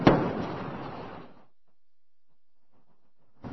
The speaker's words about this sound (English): Twin sonic booms heralding Atlantis' arrival at the Florida spaceport.